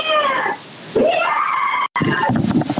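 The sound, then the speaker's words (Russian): A woman screams behind a door in long, strained, wavering cries, muffled and heard over a narrow phone line during a call to the 112 emergency operator, continuing almost nonstop with a brief dropout near the end. “Девушка, вы слышите, как она орет там за дверью?”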